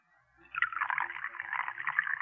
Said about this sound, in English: That's it. Now unscrew the top. That's it. Now pour it into the cocoa.